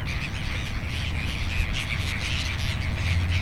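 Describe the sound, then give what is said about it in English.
A flock of crows mobbing an owl caws and squawks harshly and continuously, their overlapping calls forming a steady, agitated chorus over a low rumble of background noise, with no talking. “But crows will almost always mob an owl on sight.”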